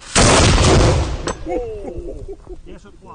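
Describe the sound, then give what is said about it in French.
A single loud, booming cannon blast with a long rumbling decay fills the first second, then fades under quieter sounds as a voice begins speaking. “À la fin du XVIIIe siècle, à l'emplacement du parc, il y avait des terrains qui servaient de lieu d'entraînement pour le tir au canon.”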